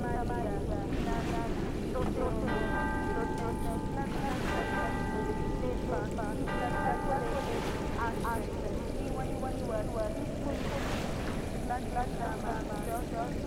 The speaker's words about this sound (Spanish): Este es un río muy peligroso. El río. Había un río que se llevaba cualquier cosa. Las personas, los recuerdos, los muertos, los perros.